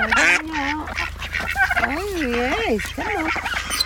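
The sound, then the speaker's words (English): Geese and ducks honking in a farm pen in Dipkarpaz, kept with two turkeys (two geese, four ducks including babies), a run of wavering, nasal calls overlapping one after another, with a steady low rumble underneath. “Right, we've got the two turkeys, two ducks, and two geese.”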